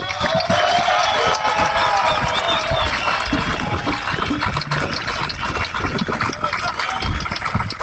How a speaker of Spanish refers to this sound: También un aplauso para Fénix.